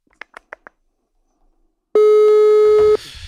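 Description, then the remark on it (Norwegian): A few quick clicks, then a single loud, steady telephone ringback tone lasting about a second, as heard on an outgoing call, before fading into faint background noise. “Vi ringer. Vi hører.”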